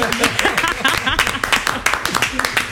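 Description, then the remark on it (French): Steady, fairly loud applause on an Africa Radio broadcast, with many overlapping claps lasting a few seconds, while voices talk over it throughout. “Ça mérite des applaudissements quand même, hein, ce qu'on vient d'écouter.”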